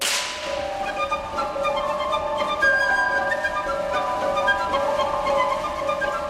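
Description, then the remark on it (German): A single sharp, dry slapstick crack of two wooden boards struck together, imitating a whip, snaps at the very start of a piano concerto, then gives way to sustained orchestral tones and shimmering chords ringing on underneath. “Natürlich ist es keine wirkliche Peitsche, die wir hier hören, sondern der Klang zweier aneinander geschlagener Hölzer.”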